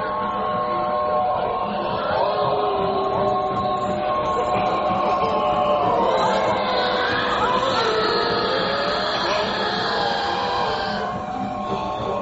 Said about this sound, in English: Listen to that train, Miss Foley. Like a billion people protesting, not wanting to be dead.